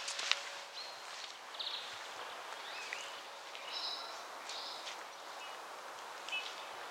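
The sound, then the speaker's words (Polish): Greenfinches, blackbirds and bullfinches call in scattered short notes and soft whistles on a sunny day, the blackbirds giving agitated calls, faint over a low background hiss with occasional rustling. “Dzwonią dzwońce, ptaki ziarnojady, kosy się niepokoją, ale też trąbią gile, kuzyni dzwońców.”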